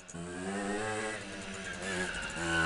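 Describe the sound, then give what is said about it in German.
A small moped engine runs steadily, its buzzing putter holding a fairly constant pitch with slight rises and dips in revs, heard on its own without talk. “Und deswegen fahren wir Mofas und keine Motorräder.”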